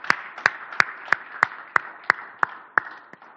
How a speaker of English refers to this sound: I want us to clap our hands to Jesus for this.